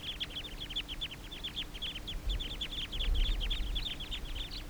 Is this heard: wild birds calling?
yes